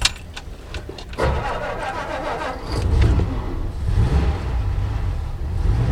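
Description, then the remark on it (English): An old 64-year-old car's engine clicks and cranks, catches after a second or so, then settles into a steady, low rumbling idle that grows slightly louder and keeps running. “The car runs surprisingly smoothly, but it definitely shows it's 64 years, with a rusty exterior, lights that dim when you blow the horn, and a radio that only tunes in to AM frequencies.”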